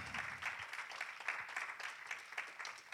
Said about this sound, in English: Y'all ought to give God a hand clap for his love.